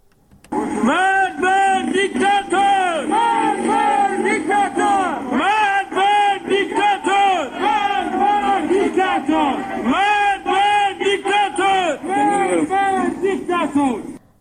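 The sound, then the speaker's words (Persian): A large crowd of protesters in Sanandaj, Iran, chants slogans against government officials in unison on Monday evening after blocking a street and lighting fires. The chanting is loud and rhythmic, with repeated phrases rising and falling in a steady cadence for the whole stretch, voices blending into a continuous roar. “همچنین بنابر تصاویر دیگری، شماری از معترضان در سنندج شامگاه دوشنبه با بستن خیابان و روشن کردن آتش شعارهایی علیه مقامات حکومتی سر دادند.”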